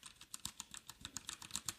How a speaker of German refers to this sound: Es ist eine Tastatur. Ich versuche mal kurz, ob ihr das hört. Das ist nämlich so eine schöne mechanische. Achtung.